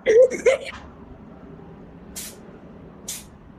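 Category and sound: animal, sneezing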